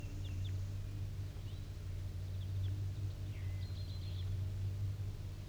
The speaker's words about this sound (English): So recording the wild bird again, 7:20 a.m.